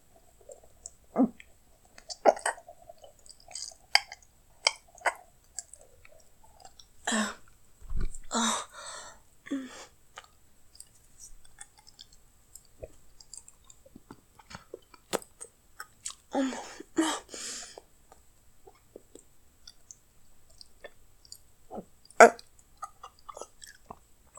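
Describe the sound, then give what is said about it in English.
Wet gagging and choking sounds from a person gagging during oral sex come in irregular bursts, mixed with moist clicks and mouth noises. Two louder clusters of throaty sputtering stand out against quieter stretches, with no clear talking. “You wanna hear me gag on it, don't you?”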